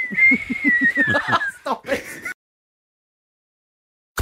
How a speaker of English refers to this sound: The old whistling scrape. There mate. You go. Yeah. That man's still whistling. Every time.